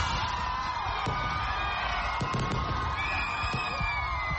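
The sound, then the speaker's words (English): A dense, steady roar of a cheering, whooping crowd celebrating the new year at night in Kampala, Uganda, punctuated by a few sharp firework bangs and crackles at irregular intervals. “The sound of fireworks rippled through the nighttime sky as Ugandans ushered in the new year in the Ugandan capital, Kampala.”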